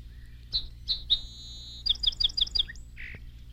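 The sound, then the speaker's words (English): A song sparrow sings one clear song: a few sharp introductory notes and a buzzy held tone, then a quick run of repeated notes and a low closing chirp. “The song sparrow has my favorite of all bird songs.”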